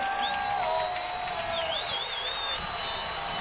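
A large stadium crowd of Vikings fans comes to its feet at a football game on third and goal at the 9-yard line, roaring steadily in a dense, continuous wall of noise, with thin whistles cutting through above it and no one speaking clearly.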